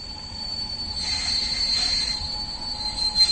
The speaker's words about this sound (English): A series of trains, both small and big, take us across the Ostrava conglomeration. We pass through Hlučín, Ostrava, Karviná, Bohumín, spotting working coal mines in the distance before ending up in Český Těšín.